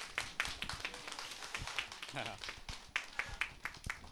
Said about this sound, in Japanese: で、それでは、来られている方の、紹介をさせていただきたいと思いますので、ちょっと前が空きますので拍手でお願いします。